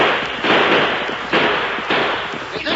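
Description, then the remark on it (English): Loud gunfire as a group of men open fire with their guns while surrounding a building, in about four sharp volleys, each a harsh crackling burst that trails off before the next one hits, forming an uneven, rolling barrage. “I want them to hear our guns.”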